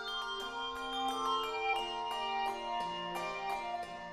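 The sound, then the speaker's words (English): A handbell choir plays a melody on a mix of Schulmerich and Malmark bells, with bright struck bell tones ringing out in steady succession and long overlapping sustains blending into a shimmering chord. No voices are heard. “This is the …, one of the few choirs that mixes Schulmerich and Malmark bells.”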